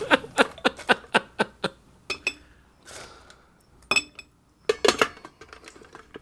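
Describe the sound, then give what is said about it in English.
Ice cubes clink and rattle into a glass in a quick run of sharp, bright knocks, with a brief pour-like rustle in the middle before a few more clinks. “Just take this out of the podcast while I'm putting more ice in my glass.”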